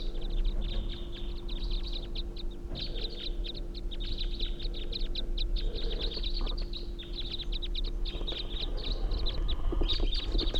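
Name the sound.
flock of birds calling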